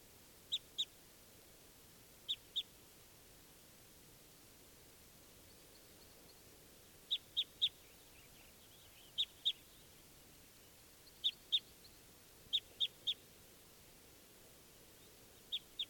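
wild bird calling

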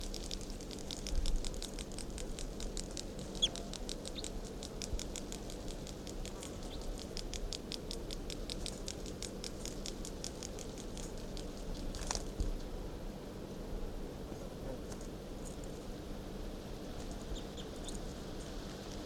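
bird song

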